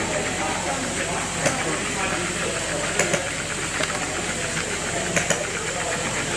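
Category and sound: machine, engine running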